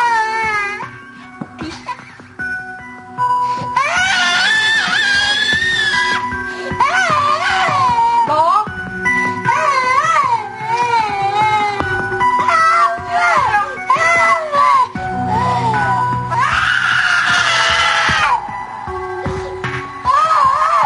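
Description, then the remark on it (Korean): A young child screams and wails almost nonstop while an adult supports the child's head and holds its arms to stop it tearing at its face, loud high-pitched cries rising and falling in long bursts with brief gasping breaks, and some muffled adult voices underneath. “달려와 머리 받쳐주고 얼굴 뜯지 못하게 팔도 꽉 잡아줬건만 울부짖는 소리엔 절대 요지부동입니다.”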